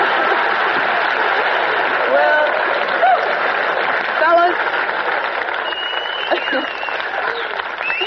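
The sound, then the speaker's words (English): A studio audience applauds and cheers loudly and steadily throughout, a dense, sustained roar of clapping, while a man speaks briefly over the noise. “Cheer.”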